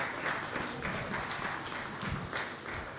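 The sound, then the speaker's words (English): A crowd breaks into sustained applause for the mothers standing among them, a dense steady patter of many hands clapping at an even level throughout, with no voices standing out. “Let's give those give them all a round of applause.”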